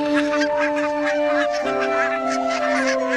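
barnacle geese honking

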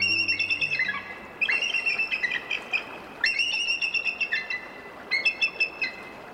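eagle calls

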